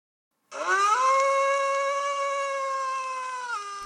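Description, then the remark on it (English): A single drawn-out dog howl sound effect for the legendary Black Dog of Fawn swells upward, then holds a steady, high, mournful pitch for about three seconds before dipping briefly at the end. It is loud and stands alone with no talking. “The Black Dog of Fawn.”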